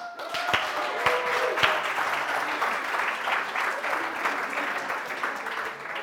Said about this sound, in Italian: Applauso ai giovani, faranno un altro turno.